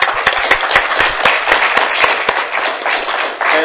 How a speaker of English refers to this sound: If not, I would ask you to please, with me, applaud and thank our 4 speakers.